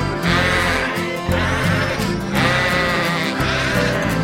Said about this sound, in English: That is what sheep say.